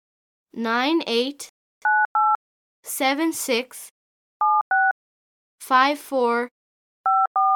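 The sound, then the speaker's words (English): Cell phone keypad tones beep in quick pairs as a friend's number is dialed, each pair of clear electronic beeps alternating with short bursts of a voice speaking in between. “Oh, here it is, my cell phone. I call my friends every day.”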